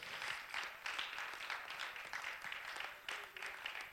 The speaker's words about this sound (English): Why don't you clap your hands unto the Lord? He's worthy of praise.